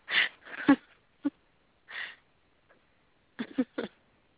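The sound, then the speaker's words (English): A bulldog snores in wheezy, snorting bursts, some drawn out and some short, coming in an irregular rhythm with brief quiet gaps between breaths. “Can you hear my bulldog snoring in the background?”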